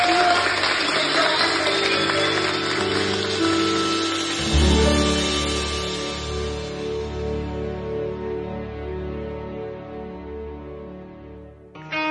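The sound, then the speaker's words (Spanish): A crowd claps loudly and steadily for a few seconds, applauding a woman. The clapping then fades under swelling music with deep sustained tones that carries on to the end. “Démosle un fuerte aplauso a esta mujer.”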